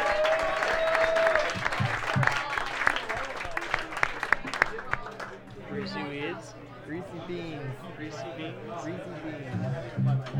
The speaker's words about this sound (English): Can we get a round of applause for those boys from North Carolina and good people?